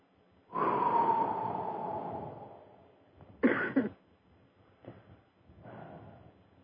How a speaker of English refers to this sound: That was a good cough.